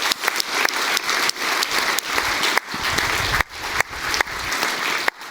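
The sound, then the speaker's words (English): A conference audience applauds the event's heralds steadily, a dense, continuous patter of many hands clapping at an even loudness for several seconds, with no voices heard. “Give also them a warm welcome and a round of applause.”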